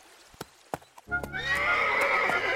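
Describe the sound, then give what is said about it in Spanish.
A few sharp hoof clops of a ridden horse climbing upward strike hard, rocky ground, then a loud, drawn-out horse whinny rises and carries on over scattered steps. No one speaks. “Asentados sus cascos en cualquier hendadura, el caballo enfila en dirección al cielo.”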